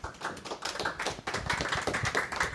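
An audience applauds steadily, a dense patter of many hands clapping at an even level throughout, with no voices over it.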